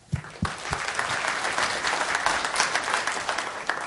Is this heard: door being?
no